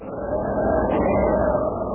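A steady, loud roar of wind rushes without a break, deep and rumbling with a faint whistling tone riding on top, and no voices.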